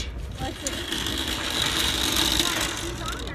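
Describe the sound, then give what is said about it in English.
A car engine runs steadily as the car is moved out of the way, a constant low rumble with a faint whine on top, staying fairly even in loudness for a few seconds. “Here, I'll move the car out of the way.”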